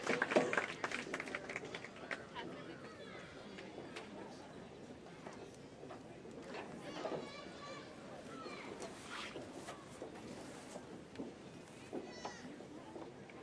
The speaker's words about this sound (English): Let's give them a round of applause as they hit the field for the second half of the game.